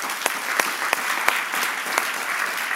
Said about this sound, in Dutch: En ik wil toch een applaus geven voor de mensen die zo hard gewerkt hebben.